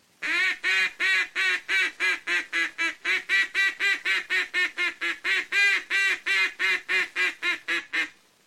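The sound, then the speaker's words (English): A duck call blown loud and high toward flying ducks gives a fast, steady run of raspy quacks, about twenty-five in eight seconds, simulating two or three mallard hens on the water calling together to bring the ducks down. No one speaks. “Notice how this call is made to simulate two or three mallard hens on the water joining their calls and pleading with those ducks to come down to them.”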